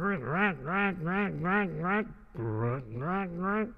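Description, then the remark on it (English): A voice imitates a duck with a steady run of nasal, rising-and-falling quacks, about eight in a row with a brief pause partway through, fairly loud. “Just then, the duck came waddling around.”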